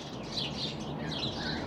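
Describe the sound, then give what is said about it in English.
A sharp-shinned hawk gives a few high, thin calls in loose repetition, set against a steady hiss of outdoor background noise. “sharp-shinned hawk”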